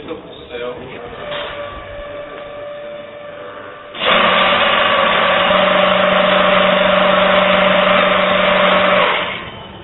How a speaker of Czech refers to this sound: Mechanika odkryla v podlaze speciální kolejiště a vchod neprodyšně uzavřel ocelový blok, který za rachotu sirén a blikání červených světel vyjel z pravé strany.